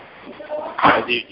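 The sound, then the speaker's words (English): A door swings shut with a single solid thud, fairly loud, with faint voices murmuring in the background. “Please, boys, please close the door.”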